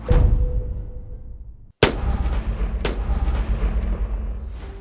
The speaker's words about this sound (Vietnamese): Tiếng súng xé toạc màn đêm tĩnh mịch, găm thẳng vào hai người phụ nữ tội nghiệp.